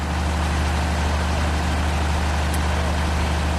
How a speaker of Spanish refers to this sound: Justo al lado varios camarotes, y si seguíamos por ese mismo pasillo te encontrabas con la sala de máquinas, claro, y el sonido del generador.